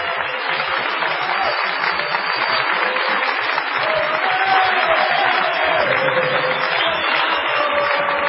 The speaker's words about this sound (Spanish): Bueno, por favor. Vamos a saludar con una ovación a Patricio Bartón.